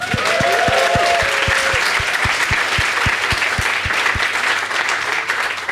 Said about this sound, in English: I love that you guys applauded for that, because that was one of the easiest.